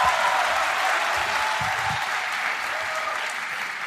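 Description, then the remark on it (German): Steady applause from a crowd, a dense even wash of many hands clapping at full volume for the whole stretch, with a few low thumps underneath and no voices standing out. “Es ist bestätigt. Applaus.”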